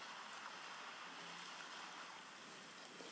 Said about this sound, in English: You can hear the sound of the sea. You can feel the sand under your toes.